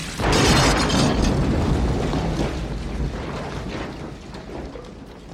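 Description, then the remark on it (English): A Johnny Cab robot taxi accelerates and blows up: a sudden loud blast bursts in after a brief moment, then a dense roaring rumble slowly fades over several seconds, with no voices. “It like screams and accelerates and blows up.”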